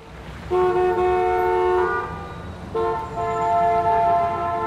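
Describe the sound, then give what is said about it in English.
Two long, loud car horn blasts sound back to back over a steady rumble of heavy traffic in Calais, France, the second starting just after the first fades out. “The traffic in Calais was quite bad.”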